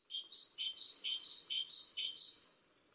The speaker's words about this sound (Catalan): Això que sentim és una mallarenga carbonera, que és un ocell que podem escoltar a parcs i jardins, en zones molt properes on estiguem les persones, un ocell bastant confiat